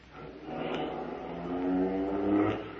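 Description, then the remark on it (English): A getaway car, parked at the curb outside a bank, revs and accelerates, its engine pitch climbing in rising harmonic sweeps, loud, with no voices over it. “We backed out of the bank and ran for the car parked at the curb.”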